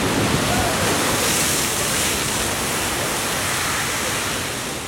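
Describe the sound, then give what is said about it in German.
A geyser erupts with a steady, loud rushing hiss, a dense wall of spraying water and steam that holds constant for several seconds before easing slightly at the end. “Manchmal hört man natürlich auch was, manchmal hört man Geräusche und oft genug sind das Geräusche, die man nicht sofort zuordnen kann. Zum Beispiel Geysire.”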